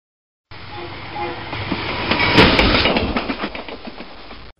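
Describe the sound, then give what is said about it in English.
A train rumbles along the rails with a steady rhythmic clatter of wheels, swelling louder midway as if passing, then easing slightly, heard alone without voices. “Excuse me, is this train going to Petten?”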